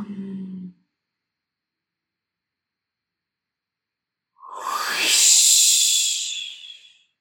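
A brief voiced sound fades into silence, then one forceful, breathy whooshing exhale, a person releasing held breath during a breathing exercise, rises and tapers off over a couple of seconds, fairly loud.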